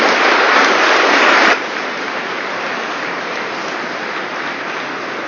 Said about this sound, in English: Yeah, that's worth clapping for.